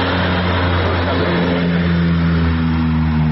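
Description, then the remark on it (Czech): A Ukrainian Antonov 32P firefighting aircraft, with an 8,000-litre water capacity, flies over fire-hit areas around Obosnik, Zabrđe and Krašići, dropping water bombs. Its propeller engines give a steady, loud drone with a strong low harmonic hum and a broad roar, holding constant with slight pitch shifts as it passes overhead. No talking. “Ukrajinski protivpožarni avion Antonov 32P, koji ima kapacitet od 8000 litara vode, od jutros je u punom pogonu i stalno nadlijeće lokacije pogođene požarima i izbacuje takozvane vodene bombe na području Obosnika, sela Zabrđe i Krašića u koordinaciji”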